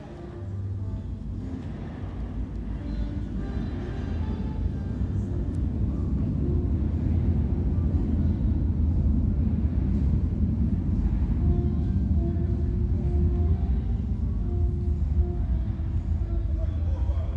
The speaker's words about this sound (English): 6R, red light, Richmond train now approaching platform 2.